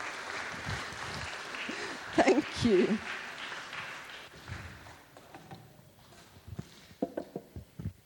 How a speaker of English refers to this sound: Well, let's give these guys a good round of applause, please.